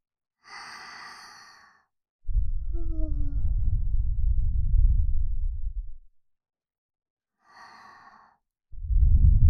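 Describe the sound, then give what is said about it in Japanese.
Breath blown softly and very close into the ear: a light inhale, then a long low whooshing exhale, repeated a second time, with no talking. “奥の方まで吐息当たってますか？”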